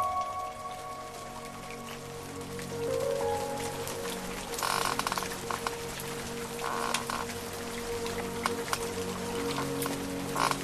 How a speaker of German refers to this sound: Nico wachte vom Regen auf, der auf das Fensterbrett trommelte.